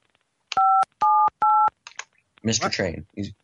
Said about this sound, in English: We have to put you on hold while I discuss this with my manager about waiving these fees. Just give us a moment, okay? You'll hear a few beeps and then it'll be silent, but rest assured, we can't hear you, and you shouldn't be able to hear us, okay?